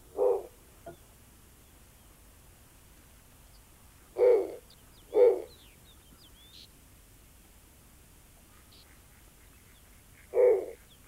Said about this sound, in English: Jeff Robbins, our technical director today, has... the song of the snowy owl. Let's listen to that so you can hear it.